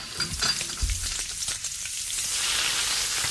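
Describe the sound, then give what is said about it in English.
A steady, hissing sizzle like food frying in a hot pan, a sound effect meant to depict a barbecue, with a few soft clunks early on, the crackle thickening and growing brighter toward the end. “It's more like a frying pan, isn't it?”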